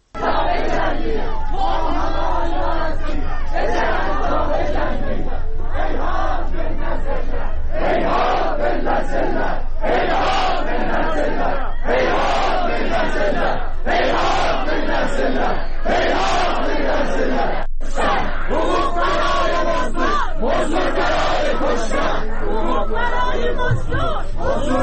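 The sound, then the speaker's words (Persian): A large crowd of mourners chants loudly in unison at the funeral of Aylar Haghi, a young woman, in Vadi Rahmat cemetery in Tabriz, Iran. Rhythmic shouted phrases repeat every couple of seconds with short pauses between, over a constant background of crowd noise and babble. “در تبریز شمار گسترده‌ای از مردم در مراسم خاکسپاری آیلار حقی، دختر جوانی که پریروز جان باخت، در آرامستان وادی رحمت برگزار گشت.”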